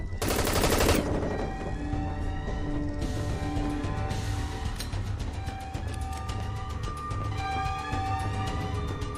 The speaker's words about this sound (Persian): صدای گلوله شنیدیم.